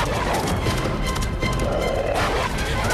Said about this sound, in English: The wolf gets a purchase on the horse's hindquarters. Free again, the horse pounds up an avenue of trees.